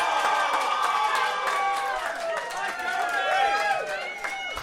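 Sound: crowd cheering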